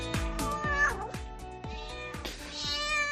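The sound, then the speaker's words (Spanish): A cat meows a couple of times, drawn-out and wavering in pitch, over a steady backdrop punctuated by regular sharp percussive knocks. Moderately loud. “El gato que hacía su papel, cazando ratones, salía y entraba de la casa por un agujero que se hacía casi a la altura de la calle.”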